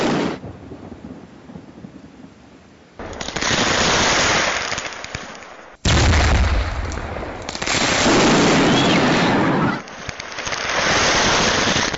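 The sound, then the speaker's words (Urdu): A stockpile of fireworks exploding in an accident at a place where fireworks were stored and sold: a sustained, roaring barrage of loud booms and crackling blasts, surging in waves with brief dips, overwhelming, with no voices. “یہ وہ مقام تھا جہاں پر آتش بازی جو ہے کا سامان رکھا ہوا تھا اور فروخت ہو رہی تھی اور وہاں یہ واقعہ رونما ہوا.”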